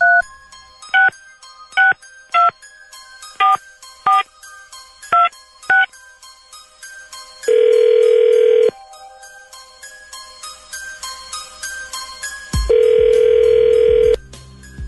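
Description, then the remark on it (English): A rapid series of about nine short touch-tone dialing beeps, followed by two long, loud ringing tones with a pause between them, over a faint steady musical background. “Some dialing music, please.”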